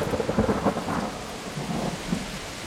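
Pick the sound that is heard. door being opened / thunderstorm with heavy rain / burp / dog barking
thunderstorm with heavy rain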